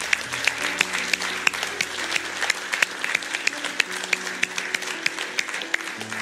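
A church audience gives people a big round of applause, a dense wash of many hands clapping with sharper individual claps popping out at a quick, irregular rhythm, holding a constant loud level throughout, with a low hum beneath.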